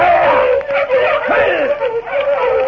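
Several sled dogs howl together in a loud, wavering chorus that runs without a break, with a few sharper yelps and barks mixed into the steady howling.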